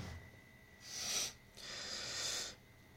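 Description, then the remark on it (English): Two breathy nasal sniffs from a person with nasal problems, a short one followed after a brief pause by a longer, drawn-out inhale, heard alone against a quiet background. “I always get nasal problems whenever I do these, no matter how many times I blow my nose or clear my throat before I make a video.”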